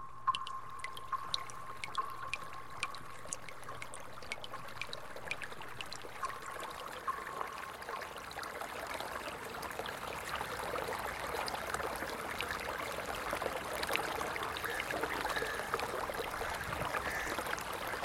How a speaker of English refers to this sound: Drip. Drip. Drip. Drip. Drip. Drip. Drip.